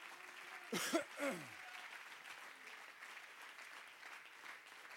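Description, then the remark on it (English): An audience at a Thursday morning church service claps hands in praise in steady, sustained applause that carries through the whole stretch, with two brief, falling vocal exclamations rising above it near the start. “Let's just everybody give him a hand clap of praise.”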